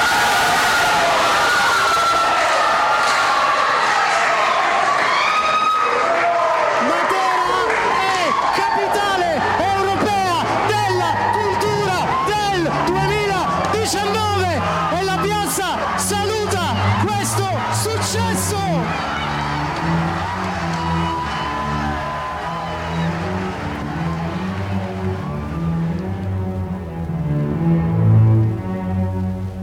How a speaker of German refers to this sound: Überraschung, Jubel, Freude, Matera bewirbt sich erfolgreich als europäische Kulturhauptstadt 2019.